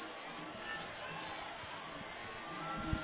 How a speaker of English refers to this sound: All right, you hear the crowd across the way, the fans that have come from South Gwinnett. They have now gotten back into this ball game.